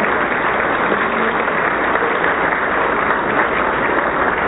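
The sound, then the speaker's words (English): An audience claps steadily at a morning award presentation, a dense and even patter of many hands that keeps going at the same loudness throughout, with no one talking over it. “Recognized for her work, you can clap.”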